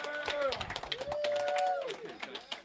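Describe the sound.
An audience claps for Don Black in a dense, steady patter of sharp hand claps lasting a few seconds, with a voice calling out over the applause before the clapping starts to thin.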